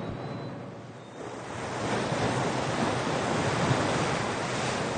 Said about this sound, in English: Out on the lake, as the wind picks at your collar, you get another sense of scale.